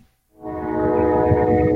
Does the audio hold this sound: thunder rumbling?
no